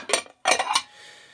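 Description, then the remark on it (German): Metal cutlery and dishes clink onto a table as it is set for dinner, in two quick bursts of bright, rattling clatter, followed by a soft fading ring. “So, der Tisch ist gedeckt und die Würstchen müssten auch gleich warm sein.”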